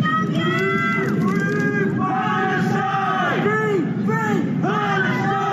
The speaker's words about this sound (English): Some on the street heard yelling words of support.